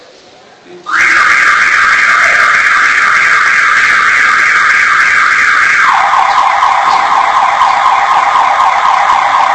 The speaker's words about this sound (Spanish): Si no es el tren, es una alarma.